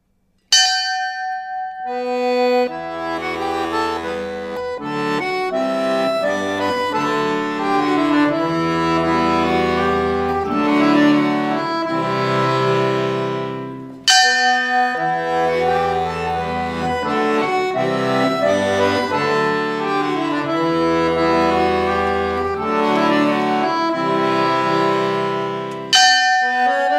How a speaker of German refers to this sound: Die alte Schiffsglocke der Dreimastbark Johanne. Ihr heller Klang erinnert an Boote, an Segler, an Frachter.